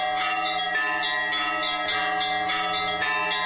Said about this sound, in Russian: Всю неделю звонят во все колокола.